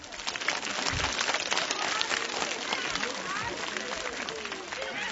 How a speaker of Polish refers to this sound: Wszyscy nawzajem siebie przywitajmy raz jeszcze gorącymi oklaskami.